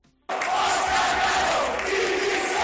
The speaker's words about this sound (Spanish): Bueno, lo que hemos hablado muchas veces, la gente estalló y cantó eso de Cano, dimisión.